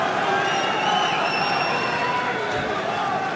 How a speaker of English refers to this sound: Game point. Can he get another roar from the crowd by closing out the game? He stretches. It's into the net. And there's the cry from the crowd.